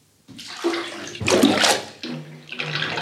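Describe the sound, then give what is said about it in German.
Bathwater sloshes and splashes in a tub in a few uneven surges with the loudest burst in the middle, and no voices over it. “Ich lasse das Wasser heraus, wenn Sie die Ente hereinlassen.”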